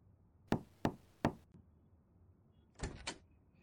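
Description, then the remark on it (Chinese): Three firm, evenly spaced knocks on a wooden bedroom door, a mother knocking on her son's door late at night, followed by a faint tap, a pause, then a short double clatter like a latch or the door being opened. “儿子，你干嘛呢？妈妈敲门也不理，这么晚了，怎么还不睡觉？”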